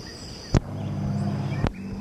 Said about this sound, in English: Okay, confirmed. This is the white chin thrush that's been calling. That's a very mockingbird quality.